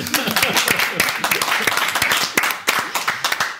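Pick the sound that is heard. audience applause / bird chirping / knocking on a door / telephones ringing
audience applause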